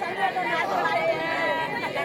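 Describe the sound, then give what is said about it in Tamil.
More than 100 women of Alanganallur, seated before the vadivasal where jallikattu bulls are released, wail together in an oppari mourning lament because a Supreme Court ban stopped the day's jallikattu; many high voices overlap in a steady, sustained mass of drawn-out, sliding cries with no pause. “100க்கும் மேற்பட்ட பெண்கள் ஜல்லிக்கட்டு போட்டிகளில் மாடுகள் வெளியேறும் வாடி வாசலுக்கு முன்பாக அமர்ந்து இப்படி ஒப்பாரி வைத்தனர்.”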